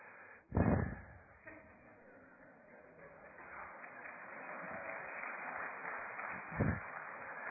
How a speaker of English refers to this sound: Amen. I'm just going to say amen. We're done. If you're already clapping, praise God.